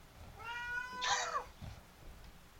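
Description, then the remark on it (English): A single drawn-out meow from Lenny the cat, who wants to go outside, rising and wavering with a strained, insistent tone, against a faint low background rumble. “Quiet down, cat!”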